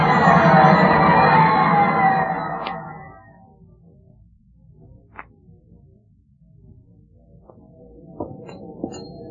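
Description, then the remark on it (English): A boxing match crowd yells and cheers in a loud, dense roar for a couple of seconds as a fighter is knocked out, then drops away to a low murmur with a few scattered knocks and thuds. “Don't get lost in this crowd.”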